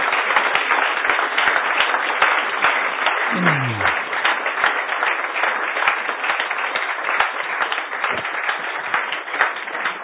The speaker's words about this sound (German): Ihnen auch danke fürs Kommen. Ein Applaus für Sie. Danke.